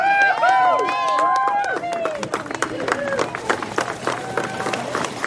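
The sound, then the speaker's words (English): A large outdoor crowd on the banks of the Ogallee River claps steadily as Melby the manatee is released back into the wild, cheering and whooping voices rising loudly at the start, then fading into continued scattered applause and chatter. “Melby the manatee splashed back into the wild to clapping and cheering from a big crowd on the banks of the Ogallee River.”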